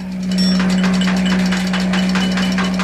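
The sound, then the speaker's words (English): A vehicle engine idles with a steady low hum and a rattling, knocking rhythm as it pulls up on the left and slows, no voices present. “Don't like the sound of your brakes, Jones.”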